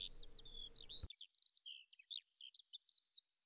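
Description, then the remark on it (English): A bird sings a continuous, quick run of high, varied warbling notes and chirps among the trees of leafy glades at Fleury, France, fairly soft and steady, with a low background rumble only in the first second. “despite the bombs, despite the chemicals, the ground recovered, and the birds once more sing in Fleury.”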